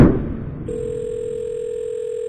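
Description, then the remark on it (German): A steady telephone dial tone, heard while placing a call, hums continuously after a brief muffled rustle at the start, holding one unwavering pitch at moderate loudness until the end, with no voices. “Ich rufe unseren Wassermaxe, Wasser-Olli mal an, was der so sagt.”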